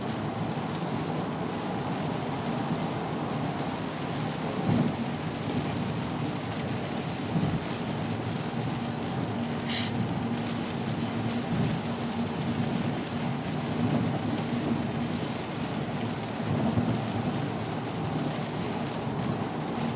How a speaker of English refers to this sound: Listen to this. It's serious rain out there. Rain is no joke. Skies are dark.